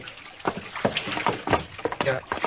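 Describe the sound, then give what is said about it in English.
Irregular wooden thumps and creaks as people step aboard a small wooden fishing boat at an old wharf in the dark, with water sloshing and lapping against the hull, moderately loud over a couple of seconds. “Let's go aboard.”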